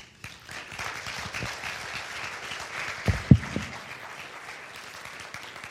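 A crowd applauds steadily, many hands clapping in a dense wash of sound, with a few louder claps or thumps standing out near the middle before the applause carries on evenly.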